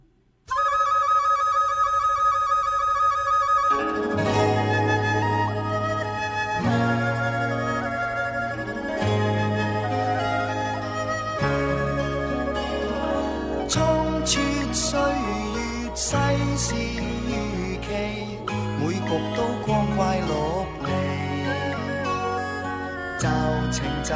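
A Cantonese pop song intro plays loud on a Sound of Hope radio music programme, opening with a sustained synth tone before a steady bass line and layered instruments come in with a regular beat. No one speaks.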